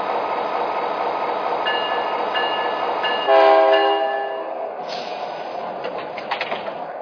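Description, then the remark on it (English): A passenger train, the Shasta Daylight, train number 9 on track 1 at Davis, rumbles steadily, and partway through a single loud, brassy horn blast sounds before fading back into the rolling clatter of wheels on track. “on track 1, train number 9, La Shasta Daylight.”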